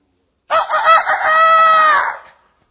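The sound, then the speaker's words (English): A single loud rooster crow, rising into a long sustained cock-a-doodle-doo that holds steady for over a second before trailing off, with no talking over it. “And the Lord said, before the cock crows, you'll deny me three times.”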